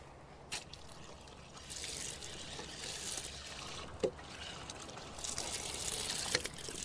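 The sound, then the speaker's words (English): Water runs steadily from a donation-funded drinking-water tap at an outdoor prayer area, a continuous splashing hiss with a few brief louder spatters, with no one talking. “Yeah, this drink is drinking water. The people have donated money for drinking water.”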